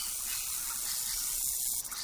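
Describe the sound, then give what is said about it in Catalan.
A steady, breathy hiss of a snake, sustained, holding evenly for about two seconds before briefly faltering at the end, with no voices. “És una serp, oi?”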